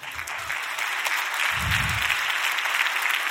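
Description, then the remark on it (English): Scattered, hesitant applause from an audience after the speaker pauses to celebrate their progress: a steady wash of uneven hand claps at moderate volume with a low rumble of movement underneath, no voices. “You got that hesitant clap like, is he about to tell us what we're really filthy rags?”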